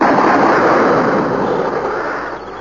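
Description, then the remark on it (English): A firing squad's rifle volley: one loud, dense burst of gunfire that roars and slowly fades over nearly three seconds, with no voices. “Ready? Aim! Fire!”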